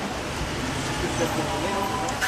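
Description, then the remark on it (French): A city bus pulls up to a stop at a bus shelter in Paris, its engine rumbling in a steady, fairly loud wash of street noise, with faint voices mixed in. “Un bus qui vient d'arriver.”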